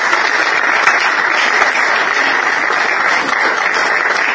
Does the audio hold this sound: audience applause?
yes